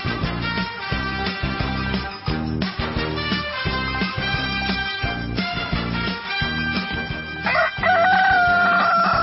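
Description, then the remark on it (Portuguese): A rooster crows loudly at the end, following several seconds of a steady, thumping rhythmic backing that plays underneath. “O Galo voltou, rapaz. Gilberto Barroso trouxe galo dentro da mochila”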